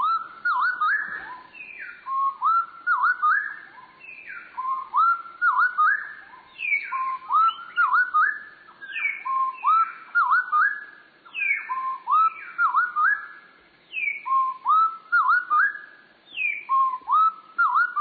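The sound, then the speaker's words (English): A bird pair's duet song slowed to quarter speed: the two birds' low, drawn-out whistled phrases alternating and interlocking in a steady, continuous rhythm, heard clearly with no talking. “Let's slow down the song to 1/4 speed. It'll be easier to hear two separate voices.”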